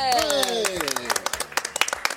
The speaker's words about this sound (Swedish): Vi sänder live ifrån Sälen. Fjällkalaset drar igång idag. Och nu ska ni få höra, ge en stor applåd.